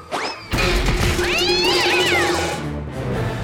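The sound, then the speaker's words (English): A cat lets out a loud, drawn-out yowling meow, rising and falling in pitch, preceded by a brief higher cry and set against a busy, noisy background. “Sorry about that, Mr. Cat.”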